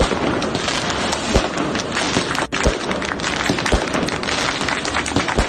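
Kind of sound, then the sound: firecrackers and fireworks exploding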